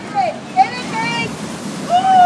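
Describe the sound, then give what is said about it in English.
Rushing, splashing water fills the scene as someone plunges into a pool at the bottom of a water slide on holiday, with high shrieks and voices ringing out over the steady wash. “That was a splash.”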